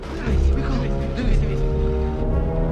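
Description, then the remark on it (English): A truck travels slowly along a track at a steady crawl, its deep engine drone continuous, with faint indistinct voices mixed in. “A truck is traveling slowly along a track. Ryan hears it”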